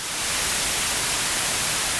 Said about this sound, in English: For your meditation session, would you prefer Nocturnal Forest? Gregorian chant. Contemplative drum beats. Or white noise.